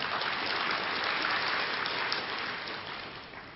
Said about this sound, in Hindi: ये सारे सुपरस्टार यहां बैठे हैं, तालियां तो बजाओ जरा।